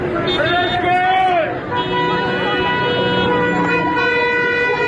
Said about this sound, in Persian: اعتراضشون مردم با بوق دارن نشون میدن.